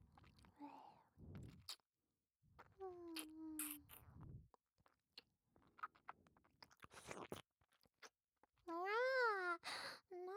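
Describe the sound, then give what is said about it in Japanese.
Wet tongue-licking sounds of a cat licking its beloved master's face come in irregular bursts, with soft smacking and a few short voiced, whining vocal sounds in between. “大好きなご主人様のお顔をいっぱいいっぱいペロペロなめなめしていいにゃ。”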